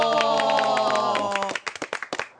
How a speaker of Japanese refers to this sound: ねえ、もう今日はあのドリフの笑い屋のおばちゃんぐらい拍手の音が大きいですね。 いっぱい聞こえましたね、